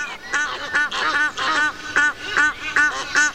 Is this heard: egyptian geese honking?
yes